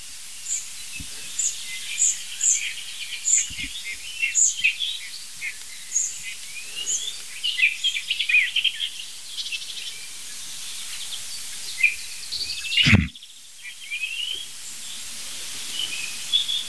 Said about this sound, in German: Lauscht mal selber rein und guckt mal, was hörst du? Wäre die Frage, nicht wer ist das, sondern was hörst du? Nein, das ist die Nachtigall.